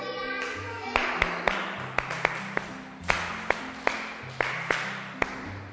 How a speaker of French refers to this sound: Très bien. Applaudissez.